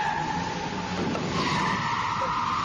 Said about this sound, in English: He's going up the exit ramp. Gone! My beautiful Lamborghini! It's a nightmare!